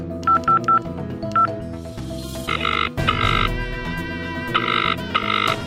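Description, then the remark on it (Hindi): Short bursts of telephone keypad dialing tones as a phone call is placed, a quick series of beeps in an uneven rhythm, played over a steady musical background with no talking. “अर्जुन का फोन तो बंद आ रहा है, आप एक बार स्नेहा को फोन करके देख लीजिए ना।”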